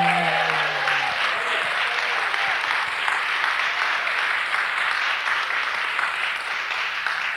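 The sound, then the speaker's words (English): A church audience breaks into steady, sustained applause for the creator of the church's web page, a dense wash of many hands clapping at an even loudness for several seconds after a brief tonal sound at the start. “Yeah, let's hear it.”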